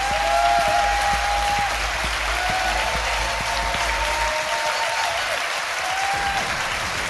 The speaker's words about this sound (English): please give a massive round of applause to my fantastic guest